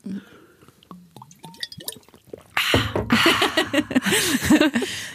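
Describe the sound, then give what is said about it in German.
Two people sip and swallow water: small wet clicks and gulps at first, then louder, continuous slurping and gurgling sounds, with no one talking. “Ich trinke einen Schluck Wasser. Ja, ich auch. Kurze Wasserpause.”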